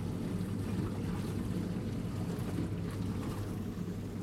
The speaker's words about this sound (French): On dirait des rouleaux qui viennent s'échouer contre la vaisselle sale.